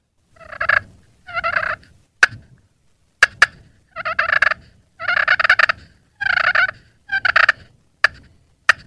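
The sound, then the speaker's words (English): A turkey call imitates a content hen's soft cluck and purr: sharp, isolated clucks mixed with a series of soft, rolling purrs, repeating in short bursts with brief pauses between, and no talking. “a real dead sounding call, real soft call that a hen would make when she's kind of a content call”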